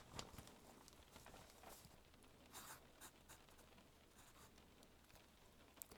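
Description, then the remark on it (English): A pencil scratches across paper in quick, irregular strokes, fairly quiet, with brief pauses between bursts of writing and no voices. “Now, what are we supposed to be writing down again?”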